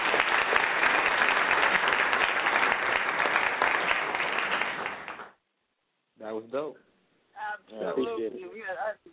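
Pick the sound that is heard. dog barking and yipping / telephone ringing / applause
applause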